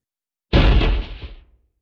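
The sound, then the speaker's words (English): A single heavy slam as a dragon's huge tail whips around and crashes into the side of a building: a sudden loud, booming impact with a deep rumbling decay that fades within a second. No one speaks. “the dragon's tail whipped around and slammed into the side of the building.”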